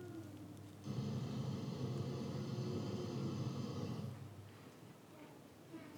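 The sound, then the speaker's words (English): The engine of the car on the right revs hard and loud for about three seconds with a steady, buzzing roar, then cuts back and fades to a low idle rumble. “And then we're going to hear the sound of the car on the right revving its engine.”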